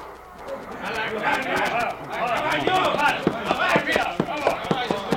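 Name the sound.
horse hooves clopping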